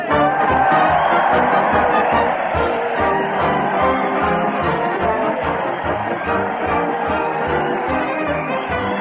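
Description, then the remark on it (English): A large crowd cheers and roars continuously as Fred Allen leads a parade and band to the old Town Hall, steady and loud throughout, with a regular thumping beat, like a marching band's drum, pulsing underneath. “The crowd is cheering Fred Allen as he leads the parade to the old Town Hall.”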